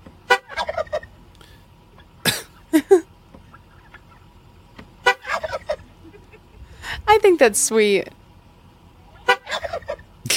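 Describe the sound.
A turkey gobbles in loud rattling bursts, answering short chirps of a car horn sounded as someone locks their car, with a voice talking briefly in between.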